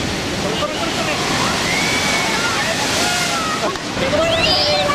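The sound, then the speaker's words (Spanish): Huge storm waves pound the seafront of San Sebastián, Spain, on 2 February 2014, in a loud, continuous roaring wash of surf and spray, with faint voices and whistling tones rising above the churn. “Ese 2 de febrero de 2014, las gigantescas olas arrasaron la ciudad.”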